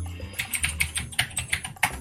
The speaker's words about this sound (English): Alright, everyone's going to get to hear how loud my mechanical keyboard is here.